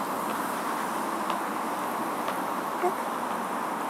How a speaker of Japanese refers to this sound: 今外から通話かけてるから。車の音とか入ってるかな。あと電車の音とか。この辺結構交通量多いみたいだね。